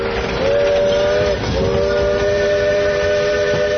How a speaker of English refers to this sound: For the next six decades, the train came through the town of Point Reyes Station several times a day, on tracks which ran right down the main street. The hissing, steaming engines transported lumber from the Russian River, potatoes from the town of